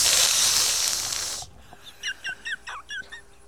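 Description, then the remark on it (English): A voice imitates a snake with a loud, steady breathy hiss lasting about a second and a half, cutting off abruptly; a run of short, high-pitched chirps follows in quick succession. “That was a good hissing noise.”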